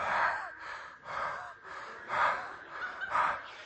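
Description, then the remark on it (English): Heavy, raspy mouth breathing imitating a kidnapper on the phone in a Liam Neeson film, in a steady rhythm of about four loud, breathy in-and-out cycles, airy and noisy with a slightly honking edge, with no talking over it. “And just so you know, if you're ever afraid of being kidnapped, you'll know it's a kidnapper because they're a mouth breather.”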